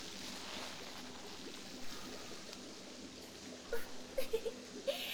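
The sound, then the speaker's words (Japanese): Steady churning water fills a hotel jet bath, the jets stirring up foam from a bubble bath additive, with a few soft sloshing splashes near the end. No one speaks. “あれ？どんどん泡が。あ、それ泡風呂の入浴剤ですね。”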